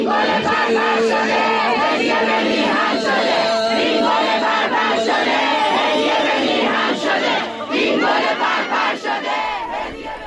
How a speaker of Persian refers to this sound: و یک صدا هم از جمعیتی که اونجا هستن داری.